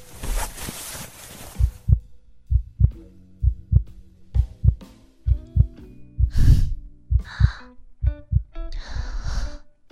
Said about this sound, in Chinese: 你心跳得好快啊。